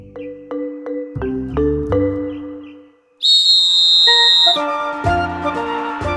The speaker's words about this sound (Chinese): 比赛到了，裁判吹响哨子，选手们就起跑了。